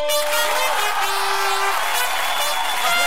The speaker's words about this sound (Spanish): ¡Aplauso, aplauso, aplauso, aplauso!